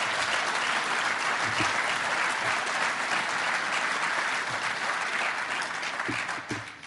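Sustained audience applause for the Chief Constable, a dense, steady wash of clapping from many hands that holds for several seconds before starting to taper off at the end.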